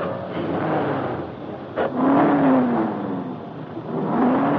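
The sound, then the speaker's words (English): The cold new engine of a convertible, started by a parking lot attendant, catches with a short burst near the start, then revs hard, its pitch rising and falling in loud, sustained surges. “That's a new motor and it's cold. You needn't race it like that.”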